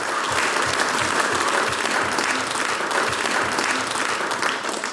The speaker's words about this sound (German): Und das ist euch ein Applaus.